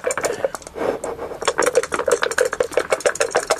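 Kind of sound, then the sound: household object, dice rattling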